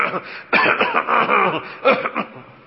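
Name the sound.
coughing and throat clearing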